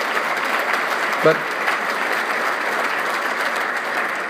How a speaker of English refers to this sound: There's other members of the General Assembly here. Would you give them a round of applause, because they sure do deserve it.